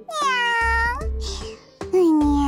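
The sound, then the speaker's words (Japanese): A voice imitates a cat's meow, drawing out a long, sliding "nyaan" close to the listener, followed by a brief pause and a second, shorter meow-like call. “にゃーん”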